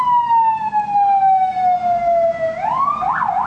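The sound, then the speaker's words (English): A loud emergency siren wails as it passes by in San Francisco, its pitch sliding steadily downward, then rising into a new wail, with a low traffic rumble underneath and no talking. “So it's like, hold on, there's, like, a siren coming by.”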